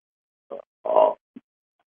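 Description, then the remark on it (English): A single sneeze: a short breathy lead-in, then a loud, voiced, explosive burst, followed by a faint brief sniff. No one speaks. “Bless you.”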